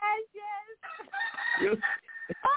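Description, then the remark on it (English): A rooster crows a loud, drawn-out cock-a-doodle-doo, with harmonic-rich, strained rising and falling notes broken into several bursts, and no one speaks over it. “Well, you heard the cock crow just now, right?”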